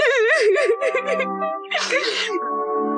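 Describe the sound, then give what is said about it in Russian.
A big girl cries in high, quivering wails that waver, break into a shaky sob and trail off into a drawn-out whimper, with no words spoken. “Не плачь ты, пожалуйста, все время как вода.”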